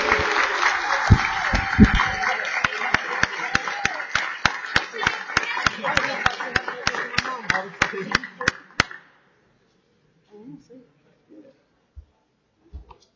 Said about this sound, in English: Ladies and gentlemen, it gives me great pleasure to celebrate the birthday of my seatmate, Representative Brown. So if you all will please join me in giving him a big round of applause and showing him a lot of love. Happy birthday.